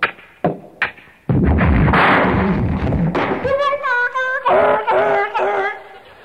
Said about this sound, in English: He fell down the stairs on the dog.